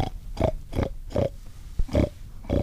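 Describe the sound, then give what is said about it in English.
During a hog hunt in the woods on a rainy day, a man imitates hog oinking to lure a group of hogs closer, making a quick series of about six or seven rough, nasal grunts in a steady rhythm, fairly loud, with no other talking. “After zigzagging through the woods for more than an hour, they see a group of hogs, and he starts to make oinking noises to lure them closer.”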